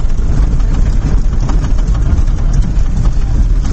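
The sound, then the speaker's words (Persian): The heavy engine of a large vehicle rumbles steadily with a deep, continuous low drone and a rough, churning texture, holding constant loudness throughout with no voices, as the vehicle travels from the centre of Qubadiyan to Qizil-Nishon. “ماشین بزرگ میره از مرکز دهه قبادیان تا دهه قزل نشان”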